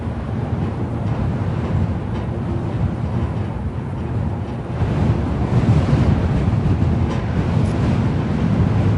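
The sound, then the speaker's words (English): Strong wind from the Southern Ocean roars steadily across an open, exposed island by Adelaide's main power station, making the power lines sing and buffeting the microphone with a dense low rumble that swells louder about halfway through. No voices are heard. “The day we visit the plant, a great wind has sprung up from the Southern Ocean, chasing clouds across the island and making the power lines sing.”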